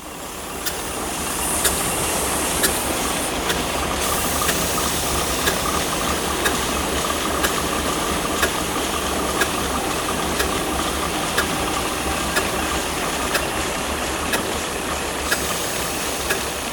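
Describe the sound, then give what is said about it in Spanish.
A steam engine, not the original, runs steadily in the hall of a textile factory, its start-up simulated at the press of a button: a loud continuous mechanical roar with regular rhythmic clicks and clanks repeating throughout, with no one speaking. “En la sala se puede ver una máquina de vapor que no es la original.”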